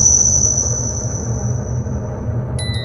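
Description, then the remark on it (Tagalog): A heavy, steady mechanical rumble of an elevator in motion drones throughout, with a thin high-pitched whine that slowly fades, then a brief cluster of electronic tones right at the end. “Tagdagan mo pa ng nakakakilabot na tunog ng elevator.”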